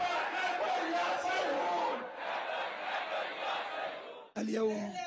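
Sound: protest crowd chanting slogans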